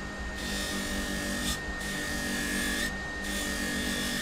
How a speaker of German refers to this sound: Mit einer kleinen Schleifmaschine schleift er von einem Bernstein die dunkle Kruste ab. Der Bernstein scheint ziemlich weich zu sein. Ja, man kann das vielleicht so vergleichen mit Kunststoff. Ne? So, das ist jetzt grob auf der Maschine geschliffen.